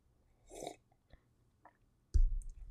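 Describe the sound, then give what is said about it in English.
A wet slurping sip of coffee followed by a few faint mouth clicks, then a low gulp or swallow near the end, all heard alone without talking. “I will sip my coffee on that notion.”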